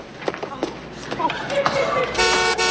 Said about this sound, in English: they're honking at us. Hey, you don't honk at church!